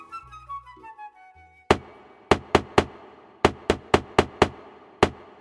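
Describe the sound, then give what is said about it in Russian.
A short melodic phrase fades out. Then a crow beats on a door with its beak, making about ten sharp, loud, crisp knocks in uneven clusters with brief silences between them. “Клювом в дверь ворона била, пока всех не разбудила.”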